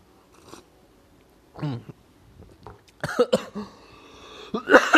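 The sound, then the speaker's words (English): Several sharp coughs in irregular bursts, the last ones loudest, with a throaty, raspy edge between them and no one speaking, after sipping a really hot cup of tea with cat hair in it. “Sorry, that was a really hot cup of tea, and I think I got my cat hair in there.”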